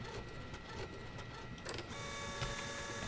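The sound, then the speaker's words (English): A printer runs steadily, its mechanical whirring and clicking continuing for a few seconds, with a shift to a higher tonal whine partway through as paper feeds. Moderately loud, no talking. “Printer works too.”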